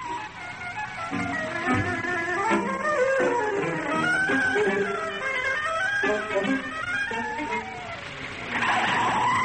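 A car speeds along in fog with tires squealing and skidding, shrill wavering screeches over a steady engine roar that stays loud throughout, with a brief faint voice mixed in.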